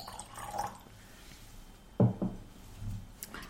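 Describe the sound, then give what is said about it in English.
Two quick drops of water plink into a glass of liquid, one right after the other, against a quiet, low hum with no talking. “It doesn't change much smell when you put the water in it.”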